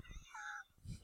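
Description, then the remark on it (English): A person briefly imitates the loud, open-mouthed scream Donald Sutherland gives at the end of the film Invasion of the Body Snatchers: a shrill, wavering cry lasting under a second, with low thumps and murmuring around it. “But at the end, Donald Sutherland opens his mouth and starts screaming really loud.”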